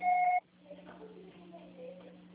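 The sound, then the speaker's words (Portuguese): A single short, steady electronic beep of a voicemail recorder, the signal to start recording a message, sounds loudly for under half a second, then gives way to a quiet stretch of faint murmuring over a low, constant hum. “Você só será tarifado após o sinal. Grave seu recado.”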